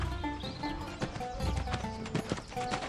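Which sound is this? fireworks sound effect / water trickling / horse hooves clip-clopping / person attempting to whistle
horse hooves clip-clopping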